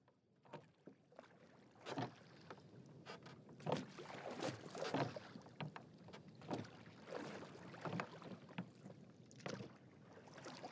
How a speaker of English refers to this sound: The third hour was three parts through when we heard again the sound of oars across the silent ocean.